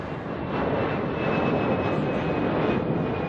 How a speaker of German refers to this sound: So, Flugzeug ist gelandet, aber es war ein sehr ruhiger Flug tatsächlich, weil sehr viele Krieger sehr müde waren.